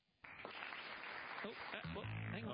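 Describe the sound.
A burst of premature applause breaks out suddenly during a quiz, for a contestant's wrong answer about the year of the Boxing Day test at the MCG, and carries on steadily for a couple of seconds, with voices chattering over the clapping and a brief tonal sound near the end.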